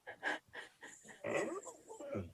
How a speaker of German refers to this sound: Es geht um Hund, damit der Hörer weiß, um was es geht. Alles gut. Genau, Hund muss raus.